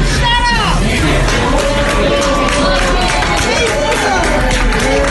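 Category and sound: crowd, people clapping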